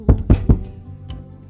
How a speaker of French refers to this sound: On frappe à la porte.